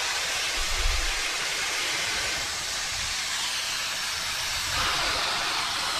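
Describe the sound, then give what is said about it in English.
Loud, continuous hiss of steam rushing from underneath a steam locomotive as the train moves slowly backwards, unbroken, with a few deep low thuds rumbling underneath at intervals. No one speaks. “I don't know if you can hear the steam as it's rushing from underneath.”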